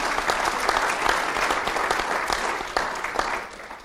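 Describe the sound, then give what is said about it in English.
Steady audience applause for the lunch staff, a dense wash of many hands clapping at a fairly even level for several seconds, with a few sharper claps standing out near the end. “Yeah, please, round of applause.”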